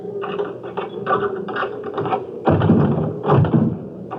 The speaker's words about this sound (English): We're exactly back in front of your front door. Turn right. Good. Up 4 steps. Fine. Now, open the door with your key.